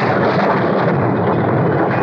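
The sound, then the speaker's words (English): Thunder rolls as a loud, continuous rumbling roar, broad and dense, sustained without a break for about two seconds with no voices. “It was thunder.”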